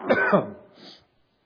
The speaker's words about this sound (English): Let me get these coughs out.